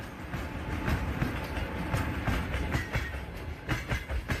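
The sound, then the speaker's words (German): A train on the Trans-Siberian Railway, crossing the Buryat region of southern Siberia, Russia, rolls steadily along the tracks, its wheels producing a continuous low rumble with repeated clicking beats at an even rhythm, sustained throughout. “Mitten durch das Gebiet der Buryaten verläuft die transsibirische Eisenbahn.”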